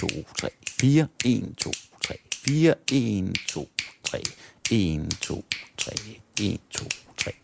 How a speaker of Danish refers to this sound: Og det, der er sagen her, det er, at det, der sker i mine fingre, det, jeg knipser, det er hele tiden det samme. Men alt efter, om vi tæller som 4/4 eller 3/4, så opfatter vi det fuldstændig forskelligt.